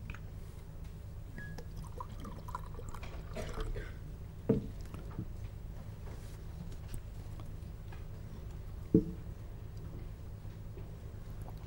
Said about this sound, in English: I'm just going to open a bottle of water.